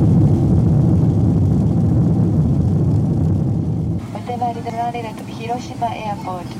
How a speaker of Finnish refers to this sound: Noin, ja nyt tultiin hiukan kovanlaisesti maahan. Kova jarrutus.